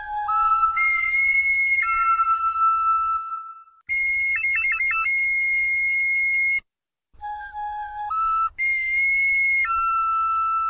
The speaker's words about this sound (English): When two people played the same instrument, probably some sort of primitive flute, in the circle, the patterns of auditory waves changed, and basically you tripped out on them.